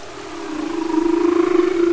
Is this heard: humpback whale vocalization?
yes